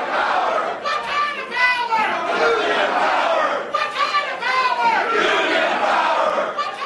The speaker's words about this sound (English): On Wednesday evening at the main union hall in Seattle, shop stewards and other union members chanted and shouted and waved picket signs even before the votes were counted.